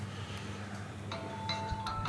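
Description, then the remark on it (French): A phone ringtone chimes in the background, a short series of bright electronic tones starting about halfway through, fairly soft over a steady room hum, with no one speaking. “Voilà, vous avez tous entendu en fond la sonnerie.”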